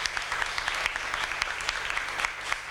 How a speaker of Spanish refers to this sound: De nuevo, ovación para ellas. ¡Mucha suerte!